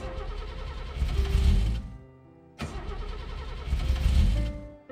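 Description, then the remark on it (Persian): A car engine cranks in two long, labored bursts separated by a short pause, the starter grinding loudly without the engine catching into a steady idle. “اینم که روشن نمیشه. بزن میشه.”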